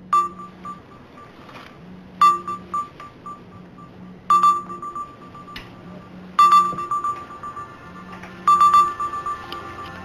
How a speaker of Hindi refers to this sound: क्या नंबर है? घंटी जा रही है यहाँ।